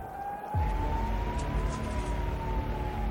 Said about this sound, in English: Sirens sounded out across the streets, with Israelis seeking shelter.